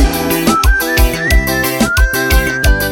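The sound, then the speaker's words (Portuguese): A thin, high whistled melody glides and sustains over a full band backing with steady, punchy drum hits and thick chords, all loud. “Essa é linda demais. Aquele assobiozinho assim, ó.”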